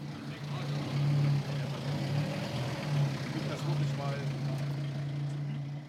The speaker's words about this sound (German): Und dann ging es auch schon los. Zuerst wurde das Feuerwehrauto ausgerichtet.